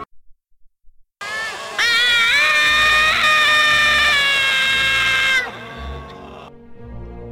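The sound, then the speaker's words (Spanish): A loud, shrill scream of terror rises sharply and holds for several seconds, high and piercing, then breaks off, leaving a low rumbling background. “Se oyó un grito de terror.”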